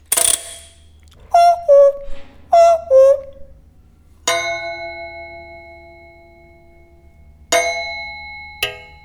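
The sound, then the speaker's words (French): Heinrich Zimmermann's cuckoo clock gives two falling two-note cuckoo calls, then strikes a resonant chime three times, each ringing tone fading slowly before the next, louder strike. “Le coucou d'Heinrich Zimmermann.”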